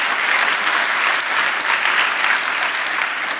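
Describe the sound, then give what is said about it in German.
An audience applauds steadily, a dense, crackling wash of many hands clapping at an even loudness throughout, with no voices standing out. “Das finde ich auch einen Applaus wert, genau.”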